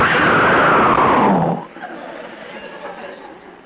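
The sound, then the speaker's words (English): A loud, thunderclap-like roar of noise sweeps downward for about a second and a half, then cuts off abruptly, leaving faint murmuring voices underneath. “I want you to hear this, this incredible thunderclap of noise.”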